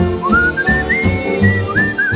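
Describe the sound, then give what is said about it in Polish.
A person whistles a short, lilting tune: clear, sustained notes that rise and glide between pitches, loud, with a steady low accompaniment humming underneath. “Kocham śpiew, kocham gwizd.”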